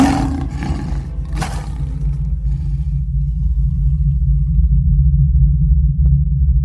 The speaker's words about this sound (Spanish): Se oyeron entonces los ruidos. Los leones.